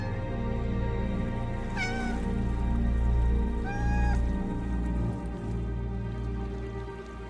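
A cat meows twice, two plaintive cries about two seconds apart, heard fairly clearly over a steady, low rushing background noise.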